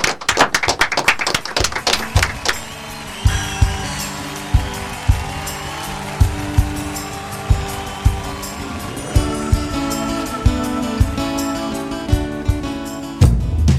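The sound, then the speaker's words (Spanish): Brisk, dense clapping closing the program Jóvenes en Acción fills the opening seconds, then rhythmic hand claps continue over loud music with a steady thumping beat and sustained tones until an abrupt stop. “Con un fuerte aplauso nos despedimos. Seguimos aplaudiendo hasta que acabe el programa.”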